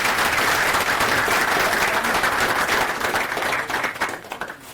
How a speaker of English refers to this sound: And a round of applause for the speaker, please.